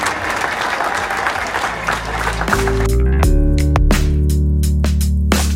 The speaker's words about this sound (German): Herzlichen Glückwunsch euch drei, Dank fürs Mitmachen und nochmal euer Applaus.